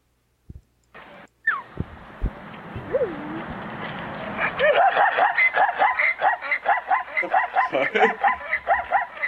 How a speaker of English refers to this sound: It's a fucking zebra. God, that just like reinforces my hatred of like all horse related animals. Like, that is the most terrifying sound.